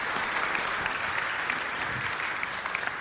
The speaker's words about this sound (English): So this was the whole illustration, so you guys give him a good round of applause for coming up here and helping me out. Thank you.